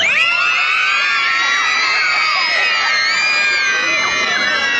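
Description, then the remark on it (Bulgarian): A crowd of young children in Razgrad screams together at full volume in a ritual to chase away evil, a dense, shrill wall of overlapping high voices that holds steady and unbroken for the whole few seconds. “Може ли да крещим и да изгоним злото? Да! Трябва да чуя. Започваме да крещим.”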